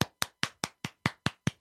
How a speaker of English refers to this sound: I think they both deserve a round of applause.